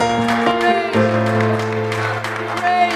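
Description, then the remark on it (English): An audience applauds the Lord in worship with scattered, steady claps beneath sustained organ or keyboard chords, the clapping moderately loud and continuous throughout. “Why don't we applaud the Lord?”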